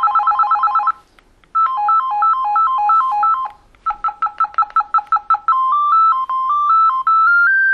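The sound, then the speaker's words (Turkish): A mobile phone plays through several of its roughly twelve ringtone samples in turn while a ringtone is being chosen in the phone's settings: a fast trilling burst, a bouncing two-tone melody, rapid staccato beeps, then a rising electronic tune, all loud with no talking over them. “Bak burada da zil seçebiliyorsun hocam.”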